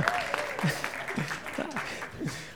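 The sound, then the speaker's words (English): A church audience claps and applauds steadily as the speaker walks to the podium, a dense crackle of many hands at moderate volume, with scattered voices calling out over the clapping. “I love it when I walk to the podium and there's a lot of clapping and applause and things like that.”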